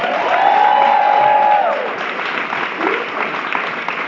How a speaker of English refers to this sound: All right, a little, that was a good amount of applause for you.